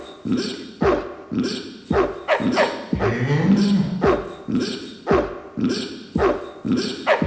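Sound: dog barking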